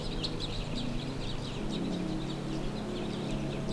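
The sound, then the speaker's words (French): Birds chirp and call in quick repeated bursts throughout on the high wooded slopes of the Liose, over a steady low rumble of outdoor background noise. No one speaks. “Les oiseaux et acheminés, vous saluent bien, auditeurs.”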